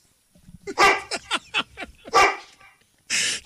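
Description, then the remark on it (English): A person who called in by phone imitates a dog, giving a rapid series of loud barks and yips in an uneven rhythm, with a couple of longer, breathier bark-like shouts between them. “To all the random people who called in and barked like a dog, thank you.”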